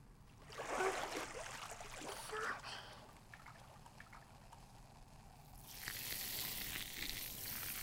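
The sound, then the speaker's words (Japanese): A steady fizzing, bubbly crackle like carbonation, being poured, swelling louder early on, easing, then returning as a brighter, airier hiss in the last couple of seconds. No one speaks. “シュワシュワ流すね。”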